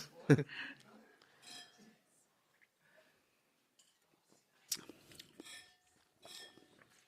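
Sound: wine glasses clinking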